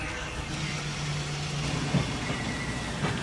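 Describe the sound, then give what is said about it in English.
A motorized winch on the fishing boat Dolores Louise drones steadily over a constant engine rumble as Joe Scola hauls up his experimental fishing net, winding green mesh back onto the winch; its hum holds for a second or so before a couple of sharp mechanical clunks. Continuous, with no voices. “Back on the Dolores Louise, Joe Scola is hauling up his experimental net. Yard after yard of green mesh winds back onto the winch.”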